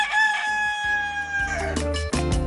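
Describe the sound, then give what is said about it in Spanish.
A rooster crows loudly, one long, drawn-out cock-a-doodle-doo that fills the whole moment, with some low, rough background sounds underneath toward the end. “Entérate cuál es el origen de la frase el gallo de Morón.”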